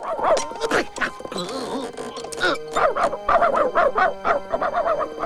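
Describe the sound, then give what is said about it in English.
Several dogs, including the telegrapher's dog Morris, gathered in a barn bark and yip in quick, overlapping, loud bursts, with a brief whimpering tone partway through and no talking. “From the Nome Telegraph office, the telegrapher's dog, Morris, spreads the news to the other dogs gathered in a barn.”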